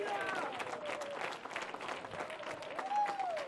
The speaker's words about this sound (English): Clap your hands. Just clap your hands.